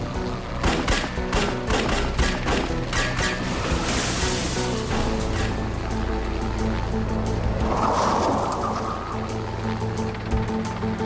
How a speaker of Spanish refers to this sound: Los agentes y los oficiales abrieron fuego mientras lo perseguían.